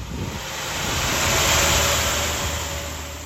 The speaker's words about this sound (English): Paramedics quickly load him onto a truck and drive off.